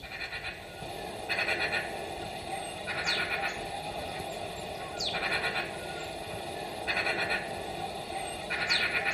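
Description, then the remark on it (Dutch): A magpie's harsh, rattling chatter comes in about five rasping bursts separated by short pauses, loud against a steady hiss of background noise, with no voices. “Je hoorde zojuist de roep van een ekster.”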